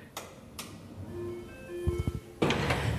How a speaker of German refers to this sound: Ich drücke mal auf die Klingel. Ich glaube, das ist das Licht. Guck mal, da fängt es schon an.